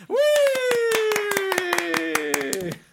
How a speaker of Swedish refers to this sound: Alltså gud, jag skulle vilja ha en stor applåd.